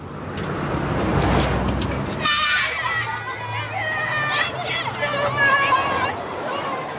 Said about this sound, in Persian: یه سری بچه مدرسه‌ای از پله‌های بانک پایین میاد.